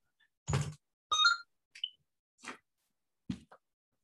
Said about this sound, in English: Yes, excuse me, there's a phone.